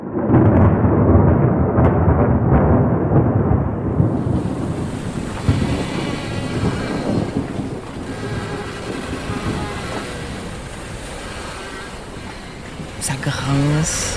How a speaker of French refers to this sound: Il y a les vagues qui viennent s'écraser sur la coque, il y a de la houle, mauvais temps.